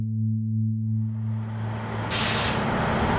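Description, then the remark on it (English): A bus idles at a small station on Chicago's southwest side with a low, steady engine hum, then its air brakes let out a loud, sharp hiss that carries on to the end, with no talking. “There's a little station here on Chicago's southwest side where you can get on a bus with bright gold stripes.”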